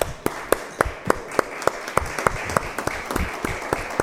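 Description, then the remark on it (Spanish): An audience at a presentation applauds steadily to welcome a person about to read a poem, with one sharp, evenly paced clap standing out above a dense wash of lighter clapping for about four seconds. No one speaks. “Un aplauso para él.”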